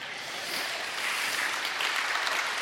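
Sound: audience clapping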